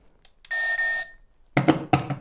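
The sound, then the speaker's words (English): A harsh electronic game show buzzer sounds for about half a second, then two shorter, raspier honking buzzes follow in quick succession, loud. “So get your buzzer noises.”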